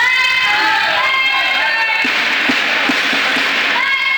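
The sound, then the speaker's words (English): A loud, steady roar of Loyalist fans cheering and shouting from the bleachers at a home volleyball match of the Loyalist women's and men's teams against the Seneca Sting, a dense wash of voices with a few sharp thumps and claps standing out midway through. “Loyalist fans packed the bleachers at home last night to cheer on both the women's and men's volleyball teams.”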